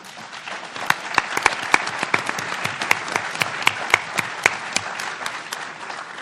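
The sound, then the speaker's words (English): An audience breaks into steady applause, many hands clapping in a dense, crackling wash with a few sharper individual claps standing out, holding at moderate loudness for several seconds. “Having gotten some clapping, I'm going to stop right there, as any good trial lawyer.”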